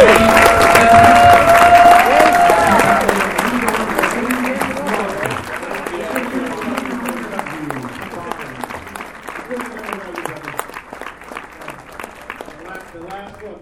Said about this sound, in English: So, if you don't want, please stand up and give you guys a round of applause.